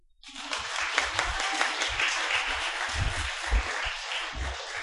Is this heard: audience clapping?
yes